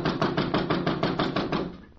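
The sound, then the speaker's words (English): A rapid run of about nine even, loud knocks on a door, struck in a steady rhythm and trailing off at the end, with no voices. “Well, we may just as well walk up and knock at the door.”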